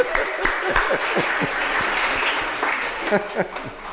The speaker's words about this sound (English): She deserves a round of applause, I believe.